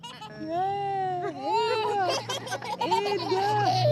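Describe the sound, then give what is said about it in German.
A seven-month-old baby sitting on a blanket on a street in a refugee camp in Port Sudan gurgles with joy, a run of drawn-out, sing-song coos rising and falling in pitch, with a steady low hum in the background. “Das 7 Monate alte Baby sitzt auf einer Decke und gluckst vor Freude und lässt die Umstehenden einen Moment lang alles vergessen.”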